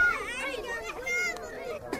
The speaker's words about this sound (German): Das Flüchtlingslager Samos. Kinder spielen im Dreck. Es ist eng, überall Zelte und Hütten aus Holzlatten und Plastikplanen.